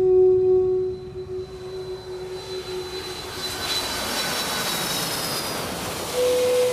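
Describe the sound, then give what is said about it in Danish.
A steady, loud roar of aircraft engines fills the air, with a sustained tonal whine at the start that fades as a broad rushing noise swells, as a jet plane lands for a stopover in Newfoundland, Canada. “Men så mellemlander flyet på Newfoundland.”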